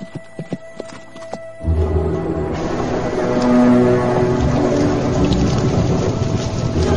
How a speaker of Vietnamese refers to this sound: Thủy Đại dục ngựa ra sức đuổi.